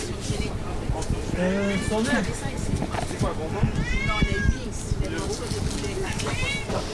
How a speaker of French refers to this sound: Oh, il y a des chats aussi. Il fait la garde.